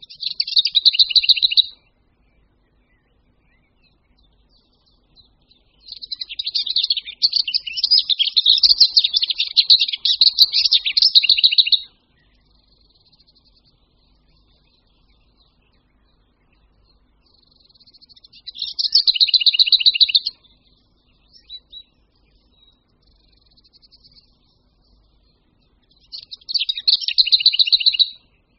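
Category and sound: bird, lesser whitethroat song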